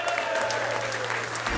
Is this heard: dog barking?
no